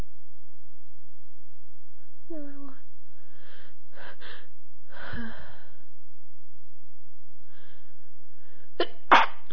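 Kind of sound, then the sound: human body sound, sneeze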